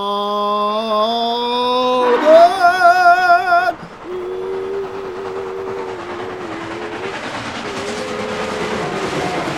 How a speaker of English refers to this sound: Chugga up the hill, puffing and chugging, you know that engine will reach the summit and go down the other side. Whoopee! What a ride! Clickety clackety clickety clackety click.